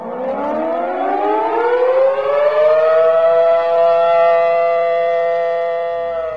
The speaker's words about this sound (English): That emergency siren that blasts through campus on the first Wednesday of every month at 11:55 a.m. is a test of the campus emergency system. For the 14,000 people who've signed up for the UMD text alert, the siren is followed by a text message